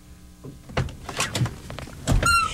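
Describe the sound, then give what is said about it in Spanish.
A door is opened and shut, with a few solid thunks and latch clicks spread over a couple of seconds and no voices. “La gaviota que estamos imaginando abrió la puerta, se sentó a mi lado”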